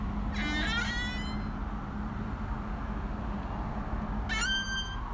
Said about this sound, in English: Lovely squeaky horror door, and it's all adding to the ambiance of seasideness.